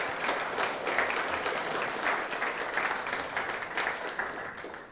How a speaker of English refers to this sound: Let's give a round of applause for the … trio this morning.